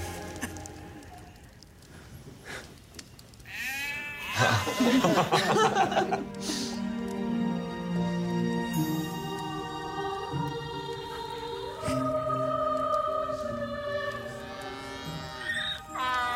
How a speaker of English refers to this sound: Is that your donkey? No, I thought it was yours.